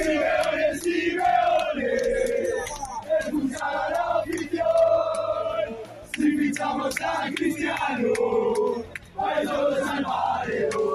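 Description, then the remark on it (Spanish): A large crowd of football fans shouts protest chants in unison against the arrival of Cristiano Ronaldo, loud massed voices rising and falling in rhythmic phrases, with a couple of brief pauses between surges. “Además de una pancarta en la que se podía leer CR7, no eres bienvenido, se pudieron escuchar gritos como este.”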